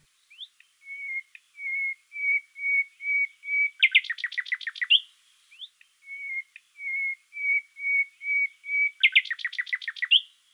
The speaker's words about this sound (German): Eine Ausnahme, das berühmte Pfeifmotiv aus dem Gesang der Nachtigall.